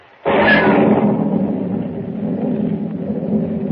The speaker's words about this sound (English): Lightning cleaves the black sky and thunder crashes as Pug, unable to swim, drops like a plummet into the raging, storm-swept sea.